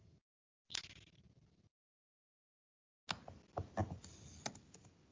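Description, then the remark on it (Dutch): A man types on a computer keyboard: quick bursts of typing, a flurry of clicks, a pause of silence, then a denser run of crisp keystrokes with a few louder taps, clear. “Ik zie een gast iets typen.”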